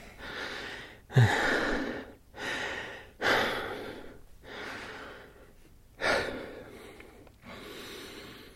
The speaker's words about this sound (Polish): Kiedy dzwoni telefon, słyszę tylko martwy oddech.